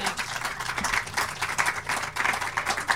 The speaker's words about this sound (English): We appreciate y'all sitting out here today. Appreciate you having the energy to clap, as hot as it is.